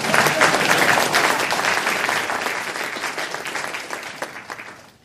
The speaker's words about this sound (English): Yeah, I appreciate that. It's the only time we got a round of applause when someone leaves.